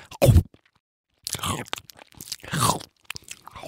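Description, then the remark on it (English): A loud, sharp chomping bite, an anglerfish snapping up a fish or sea creature it lured with its light, snaps once, followed by a brief silence and then a run of wet, crunchy chewing sounds that rise and fall irregularly. “And then, chomp.”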